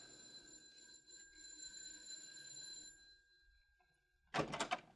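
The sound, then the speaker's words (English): An electric doorbell rings with a steady, buzzing metallic tone for about three seconds, then fades; moments later a short, loud clattering burst follows, like a door being opened. “Ring the bell, Minnie.”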